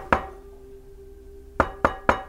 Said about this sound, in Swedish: Då hör jag två tydliga knackningar på fönstret.